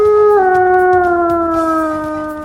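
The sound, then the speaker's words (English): A single long, loud wolf howl calling the pack to a meeting near the wolf den, holding a steady tone that drops slightly in pitch and slowly fades as it sustains, with no other sounds or voices. “All right, we hear you. We're coming, Akela. Relax. A pack meeting.”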